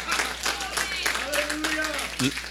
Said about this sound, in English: So we've seen 34 young kids say yes to Jesus that day, you guys. And the coolest thing about it is, yeah, you can clap. You can clap.